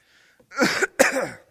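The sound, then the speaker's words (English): A person gives two harsh, loud coughs in quick succession, with a faint breathy sound just before them and no talking. “I'm trying not to keep coughing here.”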